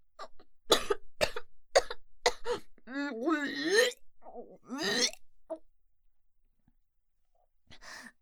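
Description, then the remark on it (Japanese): A sharp run of five rough coughs in quick succession, followed by strained, voiced throat-clearing and gagging noises from coughing so hard it nearly causes vomiting, then a brief pause and one last faint cough. “ごめんなさい、咳込みすぎてなんだか吐いてしまいそう。”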